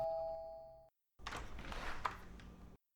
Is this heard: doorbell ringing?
yes